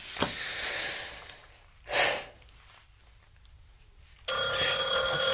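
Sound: doorbell ringing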